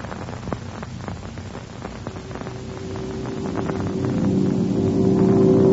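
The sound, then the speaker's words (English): Airplane engines drone steadily in flight, throttled back to save gas on course toward Canton, a low rumbling hum with a rising tonal whine that swells louder toward the end, with no voices. “And watch those engines. The one thing that would wreck us now is running out of gas before we got there.”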